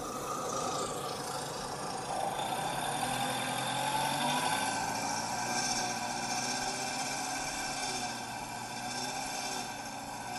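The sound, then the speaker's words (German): A Volkswagen Golf 4 (model designation 1J1) engine idles steadily with a buzzy, metallic rattle, like a loose exhaust heat shield vibrating, holding at a constant, fairly loud level throughout with no voices. “Das tut richtig weh, ne? Rappelt Auspuffblech oder so.”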